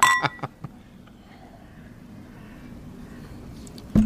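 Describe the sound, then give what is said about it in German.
Augustiner Hell beer bottles clink together in a toast among three people, one ringing hit followed by a few quicker taps, then a quiet hum until a brief dull knock at the end. “Grüß euch und Prost. Ja, Prost.”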